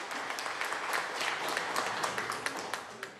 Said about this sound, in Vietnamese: Khi Queen trình bày xong, cả đám ấy vỗ tay to nhất, lâu nhất.